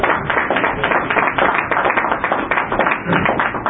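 A crowd applauds steadily, dense overlapping claps forming a continuous crackling wash that holds at an even, fairly loud level throughout with no voices standing out, at a KPFK local station board meeting, applauding a board member's work collecting the board's old minutes into one book.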